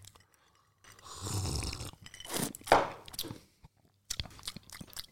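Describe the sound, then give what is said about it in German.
Lots of ice cubes rattle and crunch in a very cold drink in a few loud, grainy bursts, pausing briefly before a final scattering of clinks. No one speaks. “Wie findet ihr das, wenn hier so Eiswürfel in eurem Ohr, in eurem Auto, wo auch immer ihr gerade seid, auf dem Weg zur Arbeit, bei der Arbeit, beim Stereo, Schlafen?”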